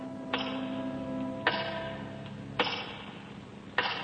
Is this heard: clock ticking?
yes